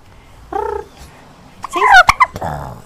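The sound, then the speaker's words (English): A domestic turkey in Ketchikan belches: a short, throaty harmonic burp, then a louder, rougher gurgling burst with a few sharp clicks about a second later. No one speaks. “Oh, they do like to belch, too.”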